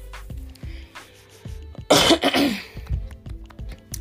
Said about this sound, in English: excuse me, guys. Had to clear my throat.